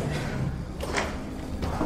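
door opening

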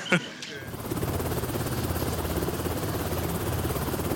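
helicopter flying overhead

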